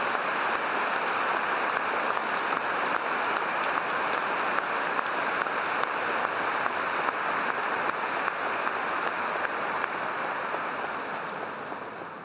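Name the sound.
applause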